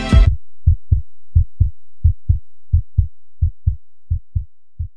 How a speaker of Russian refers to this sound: Работает сердце, бьет пульс.